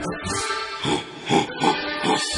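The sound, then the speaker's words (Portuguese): A boar pig grunts in a series of short, rough bursts, about four or five in quick succession, fairly loud with no talking. “O cachaço do chimitão, essa conhecida nossa. Chegando o porco aí.”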